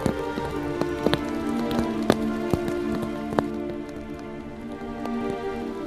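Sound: rain falling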